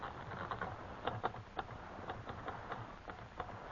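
Someone types on a typewriter, a run of sharp key clacks at a fairly steady, unhurried pace over a background hiss. No one speaks.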